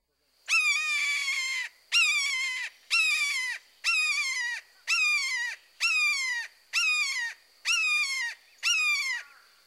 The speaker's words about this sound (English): Next, the shorter, two-syllable keer, keer, keer call of the red-shouldered hawk.